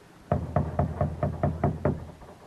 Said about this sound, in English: Company halt. All right, Borden. Knock.